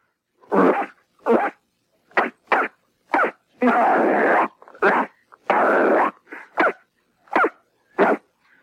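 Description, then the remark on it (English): A person imitates a dog, letting out a series of loud yaps and barks in an uneven rhythm, with two longer drawn-out growling barks partway through. “How about bark? Bark? Bark. Oh, bark. Okay, here you go.”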